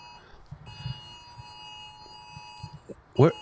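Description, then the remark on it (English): An iPhone emergency alert tone, a silver alert for a missing endangered elderly man, drones steadily and fairly quietly throughout, a sustained electronic buzz under muffled voices and bumps, with a short louder burst near the end. “Oh, these were iPhone alerts.”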